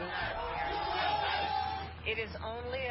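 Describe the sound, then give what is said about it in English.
A crowd outside the White House cheers and shouts together in a steady, dense roar of many voices, loud and unbroken for the whole stretch, with a few individual yells rising out of the mass near the end. “They are cheering outside the White House, Alexander Emmerich Jones, 46th president, to replace Donald John Trump.”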